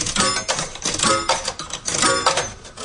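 Metallic clinks and rattles in a quick, rhythmic run as the last three coins drop one after another into a slot machine in a casino, the clatter fairly loud with a bright, ringing edge.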